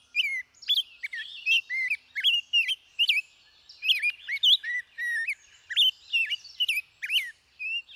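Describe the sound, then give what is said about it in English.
A Nashville warbler, a small songbird, sings a rapid, continuous series of high, thin chirps and slurred notes, clear, with no other sounds or voices. “Nearly all of North America's smaller birds, from this warbler to chickadees to thrushes, raise their young on insects, especially insect larvae, like this juicy caterpillar.”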